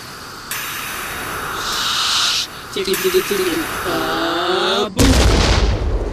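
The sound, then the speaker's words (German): A loud, steady steam hiss builds over several seconds as steam escapes through a coal-fired boiler's lid, with strained voices underneath, then the boiler erupts into a sudden, booming explosion at the end, followed by a roaring wash of noise. “die Explosion hat Sergen das Bein abgerissen”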